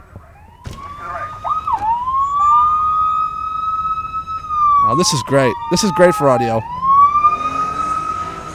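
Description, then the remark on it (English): Fire truck sirens wail loudly with a steady rising tone, then break into rapid yelping bursts and horn blasts as hook and ladder trucks and other fire vehicles pass along the street, while someone briefly talks. “Hook and ladder trucks, all kinds of fucking fireman vehicles and shit.”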